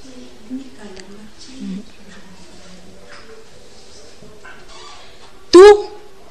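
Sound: turkey gobbling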